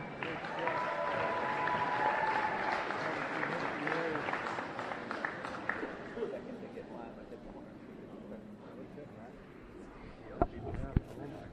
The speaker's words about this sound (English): Let's give a nice round of applause for all of our varsity parents. All right, there you go.